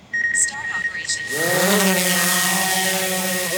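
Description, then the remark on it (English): A small drone, set on a miniature helipad at the edge of a glacial basin to take aerial photos, starts up: a few short electronic beeps, then its rotors whir up into a loud, steady, high buzzing drone that holds to the end. “Hood lays out a miniature helipad and a small drone.”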